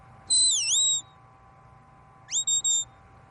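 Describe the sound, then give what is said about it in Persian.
A handler's whistle command to a sheepdog during a sheepdog trial competition: one long sweeping whistle with a dipping, rising pitch, then after a pause a quick burst of three short sharp blasts, loud and clear over a quiet outdoor background. “رابطه بین مربی با سگ فقط با سوت زدن یا صدا زدن است.”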